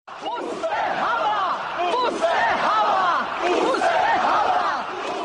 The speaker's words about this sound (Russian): На митинге звучало имя будущего президента свободной Чехословакии Вацлава Гавела. Толпа скандировала.